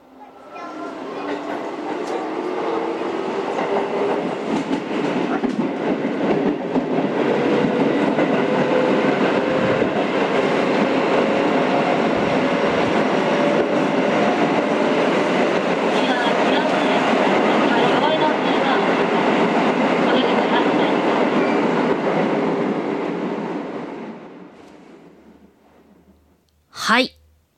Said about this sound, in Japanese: 電車の音ですね。最近の電車って溶接がしてあってですね、ガタンガタンって音しないんですね。で、このカタンガタンガタンって音落ち着きますよね。